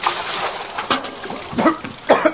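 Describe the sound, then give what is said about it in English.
A bucket of water is thrown on a man in one sudden splash, followed by splattering and his spluttering, gasping voice. “Give me that bucket of water.”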